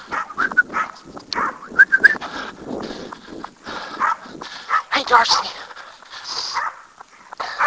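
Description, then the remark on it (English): A dog named Darcy barks and whimpers in short, intermittent bursts on a cold day, mixed with a person speaking briefly and some light rustling or footstep sounds. “Like right now, it's cold enough that it's a bit of a challenge, but relatively quiet, other than Darcy barking.”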